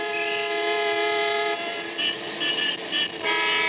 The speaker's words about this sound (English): Directly under us was the usual snarl of traffic, of people coming and going, the big electric signs flashing, the heart of the world's greatest city beating. For a couple of seconds, we just sat and listened.